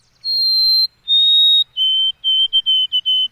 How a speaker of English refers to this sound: The bird in question here is the white-throated sparrow. Here's its chirp.